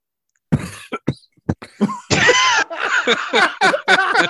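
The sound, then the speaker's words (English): Someone coughs several times in sharp, uneven bursts, then hacks and clears their throat with a run of loud, raspy grunts. “Let me clear my throat, man.”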